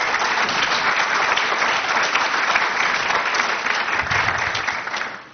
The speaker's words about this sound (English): So first off, I just want to thank everybody for coming out this evening. We are really excited to have this and have all of the candidates here with us tonight. So let's give them a big round of applause for coming out and doing this.